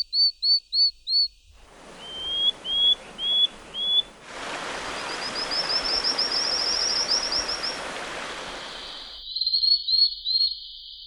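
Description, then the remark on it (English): High-pitched whistling calls of newly discovered frog species from Madagascar, among seven new species found by researchers: short, sharp chirps repeated in quick sets of four, then a rapid run of tiny whistles over a steady hiss, ending with a few more bright calls. “Researchers have discovered 7 new species in Madagascar and say the high-pitched whistling calls they make are like sound effects from Star Trek.”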